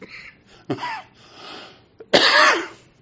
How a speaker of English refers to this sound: Maybe one of these days we'll get past all this coughing stuff.